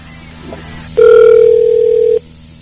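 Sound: telephone call connecting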